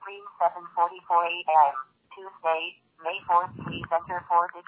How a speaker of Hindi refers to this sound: और ये बहुत ही अच्छी फोन है। इस फोन का डेमो हम आपको दिखा रहे हैं, ये फोन कैसे बोलता है।